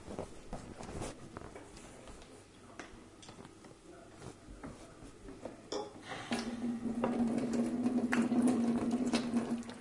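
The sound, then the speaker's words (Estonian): A carbonated drink fizzes, a dense crackle of tiny popping bubbles that runs the whole time, with a steady low hum joining in during the second half. “Oi, kuidas kibisab. Ma panen siia joogi.”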